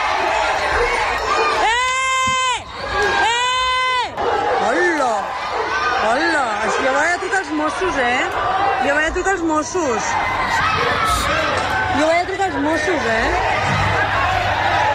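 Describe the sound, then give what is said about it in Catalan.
A crowd of neighbours shouting over one another in protest at a police arrest, a loud, agitated clamor, with two sharp, high wailing cries near the start and raised voices continuing throughout. “La detenció és tan brutal que al vídeo se senten els crits dels veïns protestant per l'acció policial.”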